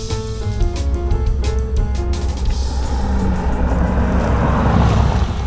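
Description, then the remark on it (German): A powerful luxury car from Modena accelerates loudly, its deep steady roar climbing in pitch with stepped tonal shifts as it revs up, with no voices present. “Es ist ein Sound-Zwitter irgendwie. Vom Motor her, ganz genial.”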